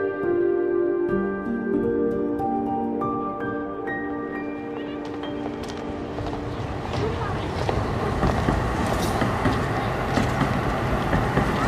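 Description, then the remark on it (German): A subway train riding along: an electric motor whine steps up in pitch as it accelerates, then gives way to a loud, steady rumble and rattle of the carriage. “Sorry, ich hatte jetzt gerade nicht so Bock in der U-Bahn.”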